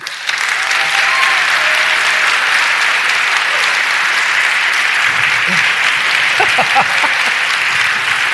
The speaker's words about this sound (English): As I introduce each one, let's give them a roaring applause because we're trying to get some compelling audio here